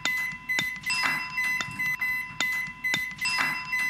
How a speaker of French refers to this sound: Alors, avez-vous trouvé quel objet produit ce son ? L'objet qui produit ce son était le micro-ondes.